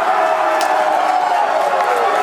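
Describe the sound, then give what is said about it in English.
A dense, steady roar of NC State fans cheering and shouting together at Players Retreat while watching the game, celebrating the Wolfpack's March Madness win over Texas Tech, loud throughout, with a few sharper whoops or claps cutting through the blended crowd noise. “You can just hear the excitement as fans gathered yesterday at Players Retreat to watch the game.”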